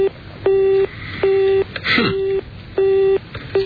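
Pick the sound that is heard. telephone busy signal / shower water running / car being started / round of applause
telephone busy signal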